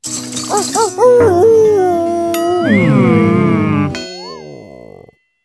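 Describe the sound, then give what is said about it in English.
A few short yipping calls lead into a long, wavering wolf howl that rises and falls in pitch, loud, before trailing off into silence. “A wolf? I'm scared.”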